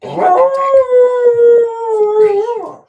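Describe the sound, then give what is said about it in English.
A female Berger Picard (French Shepherd) dog lets out a single long, sustained howl lasting a few seconds. It is steady in pitch with a slight rise and fall before trailing off, fairly loud, with no talking over it. “It is a French Shepherd. The full name is Berger Picard.”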